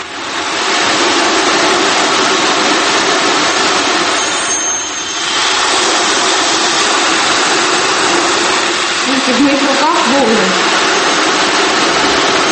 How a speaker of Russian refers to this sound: Вот это звучащая выставка. Ocean drum.